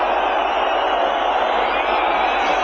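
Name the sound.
audience booing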